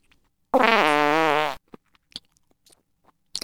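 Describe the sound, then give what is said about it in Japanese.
A single loud, drawn-out fart with a buzzing, sputtering tone lasts about a second, followed by a few faint scattered clicks and quiet. “どうかしら、ご主人様の連続放屁の味は。”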